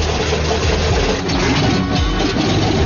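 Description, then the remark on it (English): A loud, steady piston engine drone from a vintage aircraft, with a rough low-pitched throb and rapid pulsing beats running continuously without pause. No voices. “Piston Pounders are music to my ears.”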